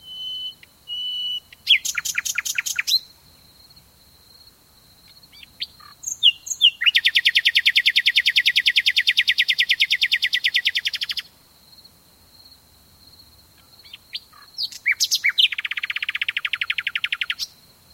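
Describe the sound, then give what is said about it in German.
A nightingale sings alone in varied phrases: a quick stuttering burst, a long rapid pulsing trill lasting several seconds, thin whistled notes, then another fast rattling phrase, clear. “Im Sommer verbringt er ganze Nächte im Freien, um dem Zirpen der Grillen, dem leisen Rauschen des Windes oder dem Gesang einer Nachtigall zuzuhören.”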